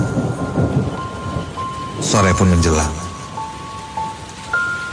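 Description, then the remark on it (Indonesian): Steady rain hisses outside while thunder rumbles and rolls, heard from inside a room, swelling loudly midway before fading. A person speaks briefly over the storm near the start. “Suara hujan dan petir mulai terdengar dari luar ruangan.”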